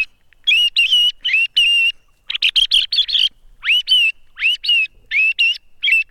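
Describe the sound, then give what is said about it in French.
A chioccolo bird-call whistle, made entirely by hand with a small hammer by a friend of nearly 90, with hammer marks visible, sounds loud, bright chirping notes in quick bursts of three or four, many sliding upward, separated by short pauses, with no talking. “Qui avait quasiment 90 ans, qui lui a fabriqué ce chioccolo.”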